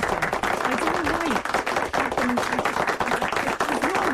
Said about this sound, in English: And joining us in studio, she hates it when we clap for her.